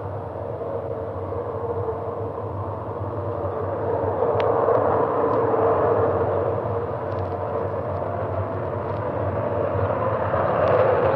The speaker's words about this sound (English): So I suppose in any moment we can expect the CF-105, the Avro Arrow, to come rushing up the runway and take off. I hear a sound.